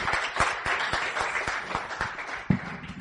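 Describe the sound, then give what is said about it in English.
An audience claps and cheers for the Lord together, a dense, steady burst of applause with sharper individual claps standing out, lasting a few seconds at moderate loudness. “Give the Lord a cheer.”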